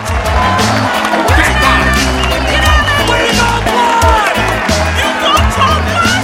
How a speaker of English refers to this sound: Davina smiles and claps while … scoffs. … wakes up and joins the standing ovation.